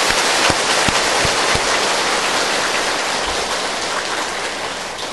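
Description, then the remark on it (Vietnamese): A large crowd of the assembly at the Quảng Pháp Buddhist practice center claps in a dense, steady wash of applause that stays loud and even for several seconds, with no voices over it. “Xin quý tán thưởng chung một tràng pháo tay nhiệt liệt.”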